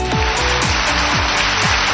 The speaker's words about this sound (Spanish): Este es el sonido que nos llega en este momento del Senado. El Grupo Popular aplaude la intervención de Núñez Feijóo. Ese es el sonido del Senado